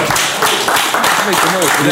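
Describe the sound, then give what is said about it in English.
Steady, loud applause fills the two seconds, a dense wash of clapping hands with voices whooping and cheering over it toward the end. “Let's make some noise for that.”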